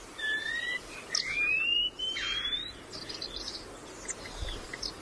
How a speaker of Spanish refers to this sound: Y también por esa misma peña, por ese mismo risco, está silbando un trepariscos, un pájaro gris y rojo que vive en la vertical. Ahí está.